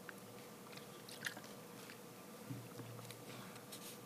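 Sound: person drinking water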